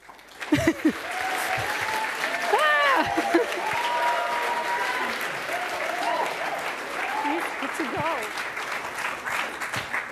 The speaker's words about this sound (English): Please give him a warm applause.